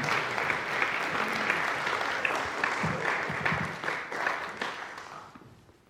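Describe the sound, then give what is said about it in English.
An audience applauds steadily after a prayer, a dense patter of many hands clapping at an even level for several seconds before thinning and fading out at the end. “Could we have a round of applause”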